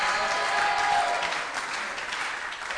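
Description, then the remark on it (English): An audience applauds steadily, a dense wash of many hands clapping at once, strong at first and easing slightly toward the end, with no one speaking over it. “I think you should be clapping, because somebody else here is about to get a similar miracle.”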